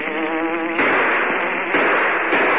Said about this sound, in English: There's a motorboat.